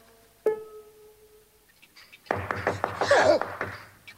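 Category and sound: household object, knocking on a door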